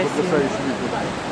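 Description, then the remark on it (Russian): Rushing, churning river water roars steadily, a dense continuous hiss filling the whole short moment, with a faint murmur of voice underneath. “Вы слышите, друзья, как шумит бурлящая вода?”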